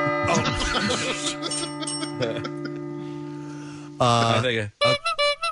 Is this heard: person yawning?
no